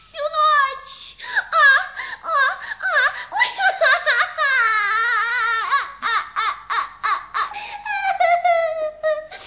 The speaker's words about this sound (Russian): Принцесса, почему вы плачете? Вам помочь? Кто вас обидел?